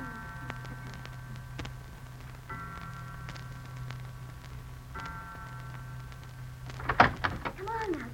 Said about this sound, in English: The door is opening.